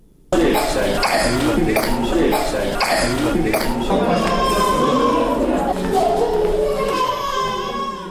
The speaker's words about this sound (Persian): صدای ناله و فریاد کودکان بیمار در شفاخانه اندرا گاندی است که به بیماری سینه و بغل و مجرای تنفسی مبتلا شدند.